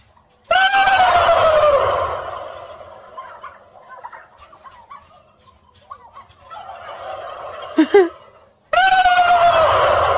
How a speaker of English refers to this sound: Got a couple of videos of guys gobbling at turkeys and turkeys gobbling back. Here's my favorite, even though it's just lousy resolution.